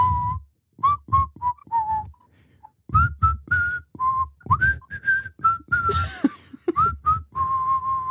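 A person whistles a melody, a string of clear pitched notes with short breaths between phrases, ending on a long held tone.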